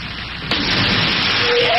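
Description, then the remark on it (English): Steady rain hiss during a canoe portage in Algonquin Park, then a sudden loud thunderclap bursts in about halfway through and rolls on as a heavy roar over the downpour. “I've been hit by lightning!”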